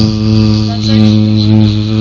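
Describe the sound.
A steady vocal buzz held for about two seconds, a person imitating an insect's drone by humming directly into a microphone until the phone rings, with a rich, continuous hum and slight wavering.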